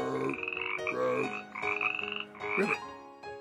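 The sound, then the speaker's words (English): A frog croaks in four or five loud, raspy, pulsing calls with short pauses between them, each a buzzy, rattling tone with no voices present. “And that would be to have a frog on top of my head. Hey, there's one on you now.”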